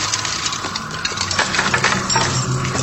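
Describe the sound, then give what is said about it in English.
A woman falls from a high ladder, where she was hanging a banner in a store, and crashes into a glass display case, with a sustained clatter of breaking glass and scattered tinkling shards over a low rumble, lasting a few seconds with no voices. “And then she falls into a glass display case.”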